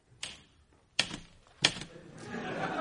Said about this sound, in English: But I had a mammoth task ahead of me if I wanted to get my novel out before Neighbours. Thank God for my speed typing skills.